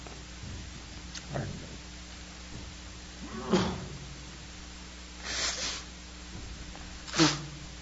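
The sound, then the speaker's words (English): A series of short, sharp sneezes, about four of them spaced a couple of seconds apart, fairly quiet against a low background hum, with no talking. “I apologize because you're nobody to be sneezed at.”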